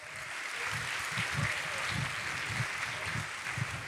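A crowd claps steadily, a dense, continuous patter of many hands with rhythmic low thumps running through it, holding at an even, fairly loud level with no voices over it.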